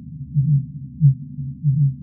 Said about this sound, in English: There were a lot of culprits making these sounds. I would say the most vocal among the species were the fin whales.